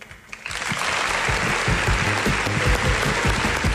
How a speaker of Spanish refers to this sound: que entendemos por ese sonido de aplausos que se ha acercado bastante gente, ¿no? Hasta el estadio del Sadar para esa presentación. Sí, parece ser.